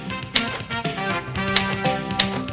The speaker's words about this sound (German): Ich saß in meinem Büro und quälte mich mal wieder mit meiner Schreibmaschine ab.